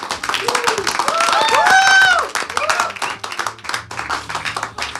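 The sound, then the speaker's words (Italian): The audience present at a live slam poetry show with Slam Factory applauds with dense, steady clapping, joined early on by rising and falling cheers and whoops. The clapping thins into scattered claps toward the end. “Quindi innanzitutto fatevi un applauso, pubblico presente.”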